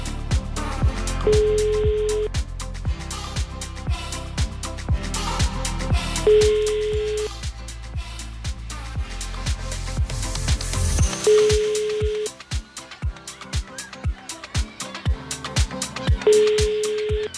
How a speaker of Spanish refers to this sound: 10:54 de la mañana, tenemos tiempo para hacer una llamadita más, a ver si suena el teléfono y entregamos otro carro antes de marcharnos